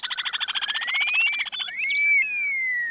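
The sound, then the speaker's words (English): An upland sandpiper song: a rapid bubbling trill of pulsed notes, then a loud rising whistle that slides into a long, drawn-out descending whistle. No voices. “Preserving grasslands throughout their range will help ensure that the upland sandpiper's song continues to ring out.”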